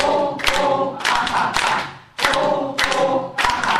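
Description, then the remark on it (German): A group in a laughter yoga session claps together as a clapping exercise in loud, rhythmic bursts, the sharp slaps landing in quick clusters with a brief pause midway, while voices hum underneath. “Zur Entspannung zwischendurch gibt es Atemübungen und Klatscheinheiten.”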